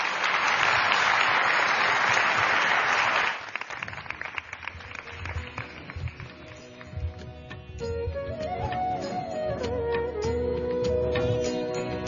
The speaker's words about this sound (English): Om Shri Sai Ram, please let us give a huge round of applause